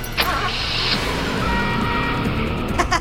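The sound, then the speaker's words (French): A car engine roars and revs steadily, with a brief high whine early on and a rumbling drive that sounds like the vehicle pulling away fast. “Ok, mais je pense qu'avec la clé, ce sera plus simple.”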